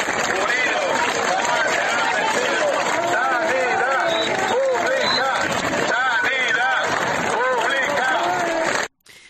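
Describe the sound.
A large outdoor crowd of more than 1,000 people at a healthcare protest march in Ponferrada, El Bierzo, shouts and cheers continuously, many voices overlapping with clapping mixed in, loud and dense throughout before cutting off abruptly at the end.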